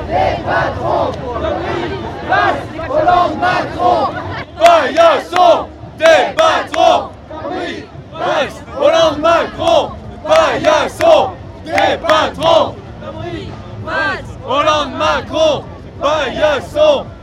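A large crowd chants in unison outdoors, voices rising in loud, rhythmic bursts of repeated phrases with short gaps between them, steady and energetic throughout like a marching protest.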